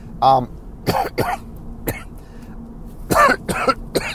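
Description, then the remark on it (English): A man coughs repeatedly in harsh bursts, several short hacking coughs and throat clearings spread unevenly across a few seconds, with a brief voiced sound near the start. “Sorry, coughing today.”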